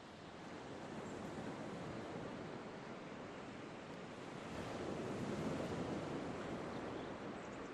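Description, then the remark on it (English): Gentle ocean waves wash in a steady, soft hiss on a calm sea at night under the moon, swelling slightly midway before easing back, with no voices and a faint breath of wind underneath. “The sound of the waves is nothing more than a soft sigh.”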